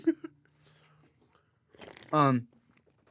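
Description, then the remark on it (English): Someone bites into a crunchy snack: a couple of sharp crunches, then a longer crackly stretch of chewing, followed by a short muffled voiced sound from the eater. “This is stressed eating, I could tell.”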